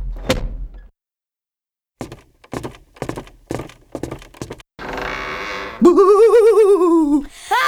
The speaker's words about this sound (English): Quick, close the door